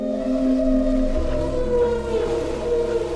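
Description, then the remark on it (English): Humpback whale song picked up by a hydrophone, an underwater microphone, off the coast of Bermuda: long, eerie, wavering tonal moans that rise and fall, layered over a low rumbling underwater background, steady and fairly loud throughout. “These eerie, beautiful sounds. They weren't submarines. They were humpback whales.”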